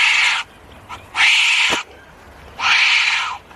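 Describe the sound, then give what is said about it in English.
A wombat gives three loud, harsh, raspy calls, each under a second long and separated by short pauses, with a sharp little click between the second and third and no voices. “A wombat, of course. Well, hopefully one a bit calmer than that one.”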